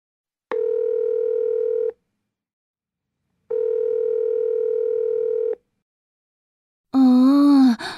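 Two long, steady telephone ringback tones sound with a silent gap between them, loud as if heard through the handset, as a phone call goes unanswered. A brief wavering groan-like sound follows at the very end.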